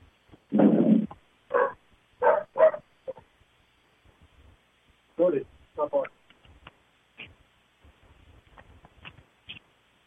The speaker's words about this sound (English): Okay, I closed the door, dog inside was barking, so just to get a little peace of mind here